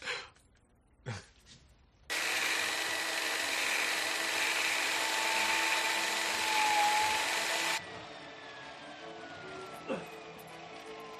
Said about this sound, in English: drill bits getting awfully hot.